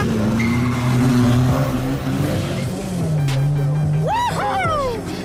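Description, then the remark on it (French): Cars race through city streets in an urban car rodeo, engines roaring and revving hard throughout, loud, with the pitch climbing and dropping as the cars accelerate; sharp tire squeals cut in near the end. “D'autant qu'aux rodéos à moto s'ajoutent les rodéos en voiture.”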